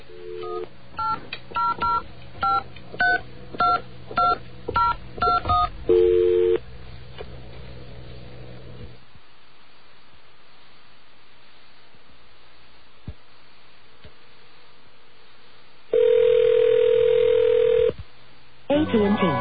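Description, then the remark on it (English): A quick run of touch-tone dialing beeps in an uneven rhythm as an 800 number (the AT&T information line) is called, then a brief steady tone, several seconds of quiet line hiss, and finally a loud sustained telephone tone. “Okay, we have our strange dial tone there. Let's call the 800 number.”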